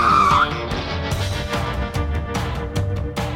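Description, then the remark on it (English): Tyres screech sharply for a moment as a stolen car takes off, then the engine roars loudly and steadily as it speeds away, with no voices. “Quick, put your foot on the gas, you sly pumpkin-stealing dog.”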